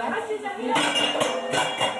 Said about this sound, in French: Et vous entendez le bruit, j'espère. Alors, ils vont nettoyer la casserole, le couvercle et la planche à découper.